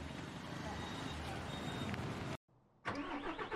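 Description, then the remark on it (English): A bus engine turns over and rumbles loudly, a dense mechanical roar that cuts out abruptly for a split second before surging back just as strong, as a bus sets off from Kathmandu up into the mountains. “We checked out of our hotel and got on a bus up to the mountains.”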